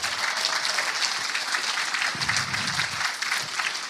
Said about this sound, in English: Let's give a round of applause to all these amazing speakers and information you've heard.